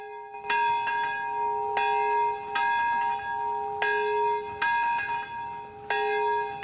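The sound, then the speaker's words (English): A large bell mounted in a tall belfry in a park is tolled by men, women and children pulling a rope, about eight strong strikes at an uneven pace, each ringing out with long overlapping resonance. The sound is loud, and nobody speaks. “take hold of a rope and they toll the magnificent bell mounted in a tall belfry dominating the park.”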